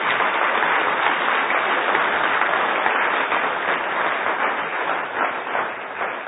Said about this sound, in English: So can we give him a round of applause and just thank him?